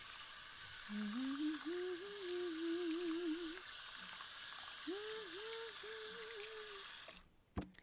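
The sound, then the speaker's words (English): Tap water runs steadily into a glass, its hollow tone rising as it fills, in two pours with a short pause between, then a sharp clunk as the tap shuts off. “I'm just going to go and wash my hand quickly and get you some water.”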